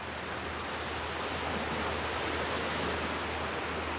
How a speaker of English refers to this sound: Soft waves now roll back and forth on the beaches of Bay St. Louis, Mississippi, where the eye of Hurricane Katrina stormed ashore.